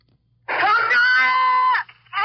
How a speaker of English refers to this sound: That's a five-year-old boy beside a bridge, screaming for his parents.